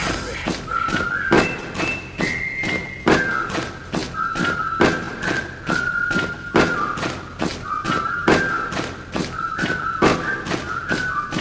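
Heavy feet stomp in a steady, fast rhythm, each thud sharp and even, while a high whistling tone wavers along on top throughout.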